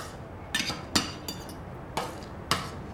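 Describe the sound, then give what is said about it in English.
Metal cutlery clinks against a plate in five sharp, bright taps spaced irregularly over a few seconds as a woman eating a meal at a table uses a fork to push food onto a spoon, fairly quiet, with no talking. “She uses a fork to push the food onto a spoon, then effortlessly lifts the spoon towards her mouth.”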